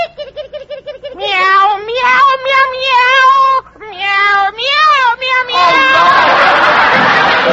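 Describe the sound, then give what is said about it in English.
A kitten meows loudly in a rapid string of drawn-out, wavering cries as it is being put outside. It is followed by a short burst of noisy crowd sound, like laughter or applause. “And while I'm about it, I'll put my little kitten out.”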